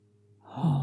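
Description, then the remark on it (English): A single breath pushed out through the mouth during a guided breathing exercise, starting softly and swelling into a breathy, slightly voiced rush of air, like a sigh. No one speaks. “Hold. Out through your mouth.”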